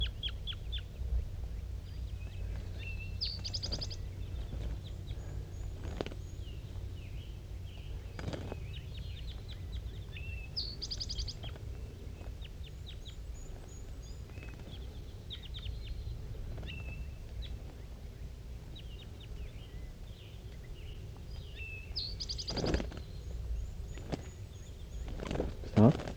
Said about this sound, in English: There are two wild birds still around in the top of that dead pine tree, and I can't tell what sex they are because the fog is just so thick. And they're calling pretty softly now, back and forth, 5-3 and the two wild ones.